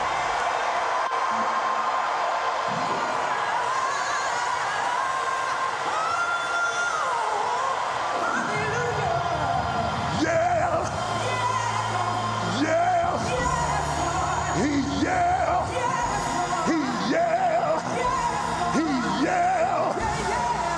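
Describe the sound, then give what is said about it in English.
A large crowd yells and whoops at full volume, many voices overlapping in a sustained, loud roar that swells and continues throughout with scattered higher shouts rising above the mass. “If you're gonna instigate a yell at the top of your lungs.”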